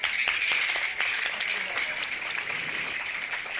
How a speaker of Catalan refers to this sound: I d'així hem vist aquí en Espai Sagrera aquesta actuació en públic. Moltes gràcies a tots, un aplaudiment.